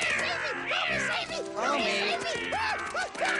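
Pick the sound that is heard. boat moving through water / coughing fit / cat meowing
cat meowing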